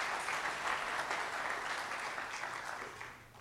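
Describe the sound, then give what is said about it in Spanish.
A crowd claps steadily in a dense, continuous wash of applause for God during a sermon. It stays loud throughout and tapers slightly at the end, with no voices rising above it. “Y dale un aplauso fuerte a Dios.”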